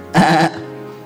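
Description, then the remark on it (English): A single short bleat, a person's voice imitating a sheep at the manger where Jesus was born, loud with a wavering, nasal quiver lasting under half a second before fading into quiet. “Amongst animals, amongst sheep.”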